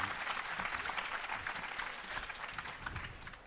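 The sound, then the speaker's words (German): Steady audience applause for a performer at a reading event, a dense patter of many hands clapping at once, sustained and fairly loud with no pauses throughout. “Klatscht direkt weiter”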